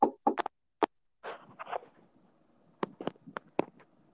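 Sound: knuckles knocking on wood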